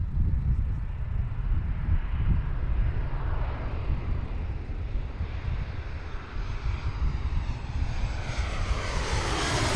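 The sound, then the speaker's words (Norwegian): A loud airplane from Gardermoen airport roars low overhead, its engine rumble filling the scene and rising into a whining, rushing sweep as it passes right over. No one speaks. “Flybråket fra Gardermoen er påtrengende, og det er en ubehagelig følelse å kjenne maskinen fly rett over hodet på meg.”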